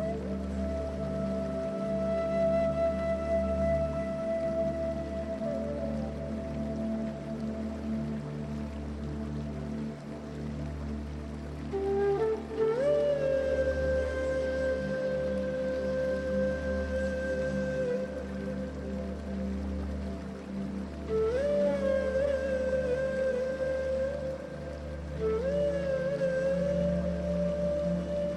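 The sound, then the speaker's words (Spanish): A waterfall rushes in a steady, unbroken wash of noise while soft, sustained musical tones drift above it, occasionally gliding upward into new held notes. No one speaks. “La brisa acaricia tu piel mientras el sonido de la cascada crea una melodía que calma tus pensamientos.”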